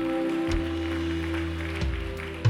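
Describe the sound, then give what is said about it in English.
A church audience gives a round of applause after a prayer, clapping steadily for a few seconds in a dense, even wash over sustained low musical tones, with no one speaking. “Can we just give a round of applause right now all across this place?”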